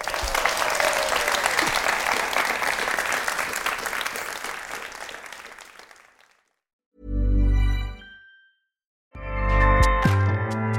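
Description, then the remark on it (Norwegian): An audience applauds at the close of an event with dense, steady clapping for about six seconds before it fades out. Two short, loud, low-pitched bursts of a different sound follow after a pause. “Takk for at dere kom alle sammen, og en stor applaus”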